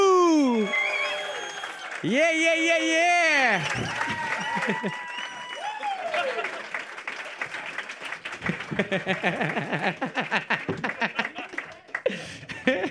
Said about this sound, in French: Je veux qu'on fasse un tonnerre d'applaudissements, tout le monde. On fait du bruit